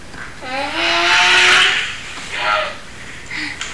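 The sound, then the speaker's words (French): A car engine revs up in a loud, rising burst, then gives two shorter revs, with a broad roaring hiss over the engine tone. “La voiture est réparée?”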